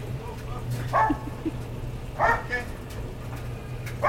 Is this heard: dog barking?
yes